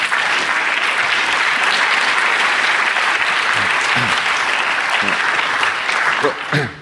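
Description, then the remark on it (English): Steady, full applause from a large audience welcoming the Chair of Population Matters, continuous and fairly loud for several seconds before easing slightly near the end, with faint voices underneath. “I'll clap for you.”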